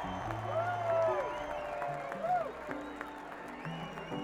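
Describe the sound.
An audience applauds steadily, a dense wash of clapping with a few rising whoops and cheering voices poking through, holding at an even level throughout.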